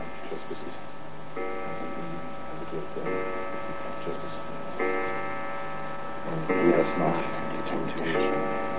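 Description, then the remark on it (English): A clock strikes twelve with slow, evenly spaced chimes, each tone ringing out and lingering before the next, while people praying murmur faintly underneath. “kept up their prayers till the clock struck 12”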